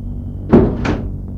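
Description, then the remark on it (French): Two car doors thump shut in quick succession as three boys get into a car, the second following the first by about a third of a second, over a low steady background rumble. “Les trois garçons entrent dans la voiture”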